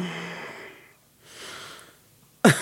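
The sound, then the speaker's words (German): A dog snores: two slow, raspy, wheezing breaths swell and fade, then a sudden loud snort cuts in at the end. “Übergibt sich jetzt dein Hund hier auf den Teppich? Nein, die macht das. Das ist ja... Nein, die macht... Die schnarchen.”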